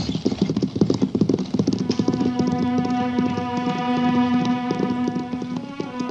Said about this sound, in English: What's the idea of making them horses run away? Don't be so dumb, Buck. Them nags won't stop till that buckboard is over the border.